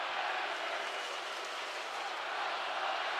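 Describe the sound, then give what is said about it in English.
A steady, loud roar from a big basketball arena crowd fills the whole stretch, dense and continuous with cheering and chanting blended into the wash of noise, as Gopher fans chant "we love the Badgers" late in a game against Wisconsin. “I think the Gopher fans are saying, we love the Badgers.”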